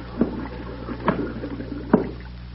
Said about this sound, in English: Them bubbles. Them air bubbles. Can't you hear? Pipe down. Listen to them. It's Mac. It's the air coming out of Mac.